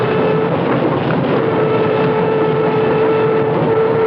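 A commuter train running on the rails, a loud, steady rumble with a constant droning hum throughout and no voices, as if heard from on board.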